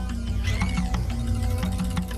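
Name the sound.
knife chopping onions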